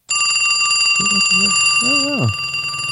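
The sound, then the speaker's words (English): A telephone bell sound effect rings continuously with a bright, sustained metallic tone for about three seconds, with a brief low voice-like murmur rising and falling beneath it partway through. “Phone ring.”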